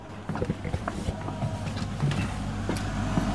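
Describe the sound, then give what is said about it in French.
A pipe organ blower, heard from inside the organ, runs with a steady, low droning hum and an airy rushing whoosh, constant throughout. A few faint knocks and clicks sound over it, with no voices. “Et là, on entend, c'est la soufflerie.”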